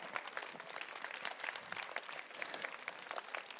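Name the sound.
applause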